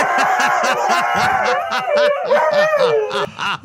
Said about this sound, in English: Maybe the best dog video you have ever had. I mean, I can't even.